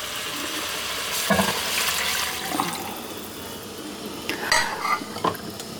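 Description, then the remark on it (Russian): Boiled water pours steadily into a hot pot of washed rice and fried meat, a rushing hiss and sizzle that runs the whole time, with a few light metallic clinks near the end. No one speaks. “Высыпаем рис. Добавляем вода. У меня вода кипяченая.”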